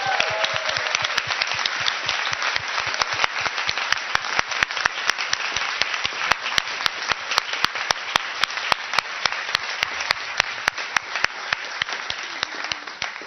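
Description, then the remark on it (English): A crowd at a closing ceremony applauds volunteers steadily, a dense, noisy wash of many hands clapping, with sharp individual claps snapping out rhythmically above it throughout, sustained and fairly loud. “If you don't want to come up to the stage, that's okay, but at least stand up so we can give you a round of applause.”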